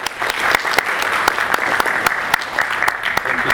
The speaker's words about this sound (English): Let's give her a rousing round of applause.